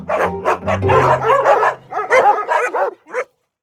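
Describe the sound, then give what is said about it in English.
A dog barks in a quick, excited flurry of sharp barks and higher yips, loud, with a low hum underneath at first before the barking trails off. “And the bark became the sonic signature of dogs around the world.”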